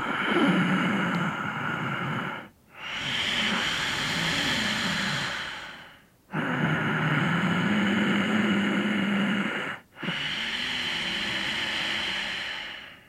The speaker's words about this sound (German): In der einfachsten Version heißt es, du erzeugst ein sanftes Geräusch in der Kehle, so als ob es ein Hauchklang ist, als ob du den Buchstaben H sagst, aber dabei den Mund geschlossen hast. Das hört sich dann so an.